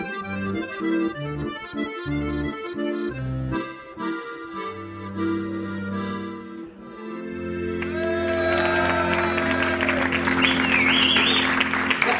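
A song with sustained instrumental chords winds down, then a large audience bursts into loud, sustained applause, with a few cheers and whistles rising through the clapping.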